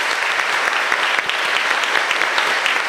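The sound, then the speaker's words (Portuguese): A church audience applauds loudly for the word of God after a Gospel reading, a dense, steady wash of many hands clapping with sharp crackling bursts throughout, sustained at an even level with no voices standing out. “Vamos aplaudir bem forte a palavra de Deus, filhos.”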